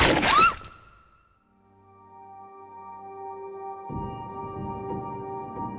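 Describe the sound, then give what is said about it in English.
A layered designed sound effect made from a ball bearing ricocheting off a hard wall, a loud pop, an apple bite and ripping paper: a sharp crunching, shattering hit with a quick whizzing ricochet, then a sustained ringing drone that grows rougher and noisier in its second half. No talking. “The main components of this sound, one was a ball bearing ricochet off of a hard wall, a loud pop, and an apple bite. Also, ripping paper.”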